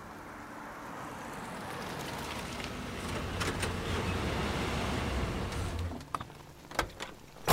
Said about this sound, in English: Stand fast! Incoming truck!